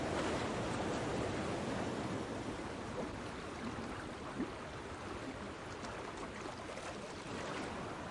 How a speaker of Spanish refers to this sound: Agua helada y pura procedente de los glaciares. Ríos como este, nacidos de la nieve, son la base de la vida misma y este es un río muy, muy especial. Aquí, en Devprayag, dos torrentes de montaña, el Alaknanda y el Bhagirathi, se unen para dar origen